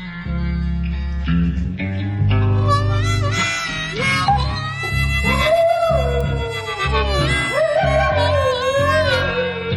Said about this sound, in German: Dass Hunde gerne mal mit Jaulen und Heulen auf Musiktöne reagieren, das weiß fast jeder Hundebesitzer.